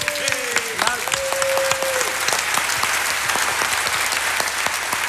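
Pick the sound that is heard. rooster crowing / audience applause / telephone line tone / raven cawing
audience applause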